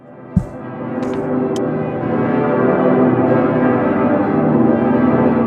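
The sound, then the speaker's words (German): The large bells of Cologne Cathedral (Kölner Dom), Germany, ring together in a dense, sustained wash of deep humming tones that swells slightly and stays loud throughout, with a single dull knock near the start. “Doch das Domgeläut birgt auch noch ganz andere Schätze.”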